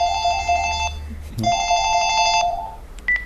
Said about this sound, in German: Während des Semesters klingelt montags zwischen 11 und 12 beim Allgemeinen Studierendenausschuss der Uni Göttingen das Telefon häufiger als sonst.